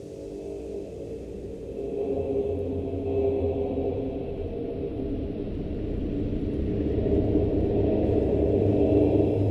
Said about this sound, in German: Im Donner des Wasserfalls.